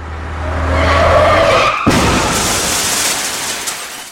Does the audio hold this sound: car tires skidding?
yes